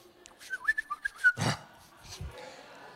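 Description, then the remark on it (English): Someone whistles a quick run of about half a dozen short, warbling chirps imitating birds moving at sunrise, followed by a brief breathy rustle and a couple of soft low thumps. “You know, had a bad night's sleep, and all of a sudden you're falling asleep, and you're exhausted, and you start hearing birds moving.”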